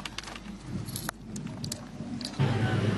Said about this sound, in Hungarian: Az egyik sofőr kénytelen volt megállni az úton, annyira csúszott a kerék, hogy inkább feltette a hóláncot.